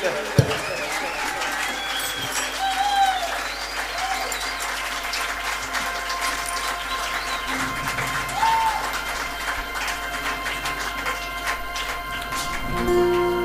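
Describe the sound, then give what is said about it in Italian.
An audience at the Sherwood festival applauds steadily for over ten seconds, a dense, even wash of clapping with a burst of cheering and crowd voices mixed in, swelling slightly near the end. “In tema di ringraziamenti e di applausi, grazie infinite a Sherwood per averci ospitati al festival, per averci voluti al festival a Rivolta un annetto fa e oggi qua.”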